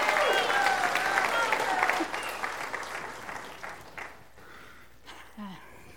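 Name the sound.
audience applause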